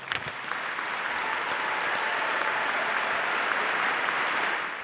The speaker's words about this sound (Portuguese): Agradeço muito a esses rapazes e moças que nos fizeram rir, mas também nos deram um exemplo de treinamento, porque para chegarem onde chegaram, precisam de muito treino. Agradeçamos com um belo aplauso.